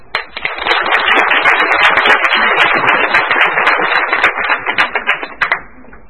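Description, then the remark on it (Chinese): An audience at a Shanghai diocese symposium marking the 400th anniversary of Matteo Ricci's death breaks into steady, dense applause welcoming Bishop Xing to give the closing address, holding for about five seconds, then thinning into a few scattered claps and stopping. No one speaks. “最后让我们以热烈的掌声欢迎邀请我们上海教区护理主教邢主教至闭幕致辞。”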